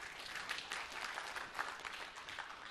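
A crowd applauds steadily, a dense wash of many hands clapping at once, with no single claps standing out and no voices heard over it.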